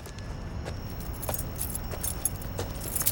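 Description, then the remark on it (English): Car keys left in the ignition jangle and click, a few light metallic rattles spread over a few seconds, over a steady low rumble inside the car. No one speaks. “He left the keys in the ignition,”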